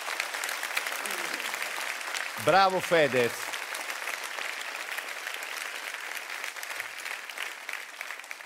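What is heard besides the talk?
applause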